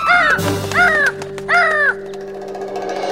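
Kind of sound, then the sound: bird, birds cawing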